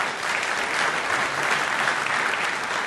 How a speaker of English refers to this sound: Your applause was robust and spontaneous throughout the evening. It was very, very helpful to us.